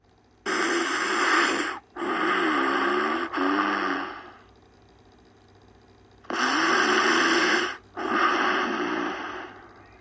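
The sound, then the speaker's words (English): Loud, rasping snores, three heavy snorting breaths in quick succession, a short pause, then two more, harsh with a spluttering, wheezy edge and no talking. “Snore, snore, snore, snore, splutter. No, moaned Winnie. I can't sleep with that noise.”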